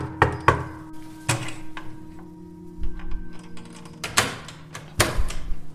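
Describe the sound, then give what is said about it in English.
Sharp knocks on the door of an apartment in an apartment building, a quick pair and then a single rap, followed after a pause by two heavier knocks, with a low steady hum in the background. “And I went back to the building to see what I could find, and I went to my old apartment and knocked on the door.”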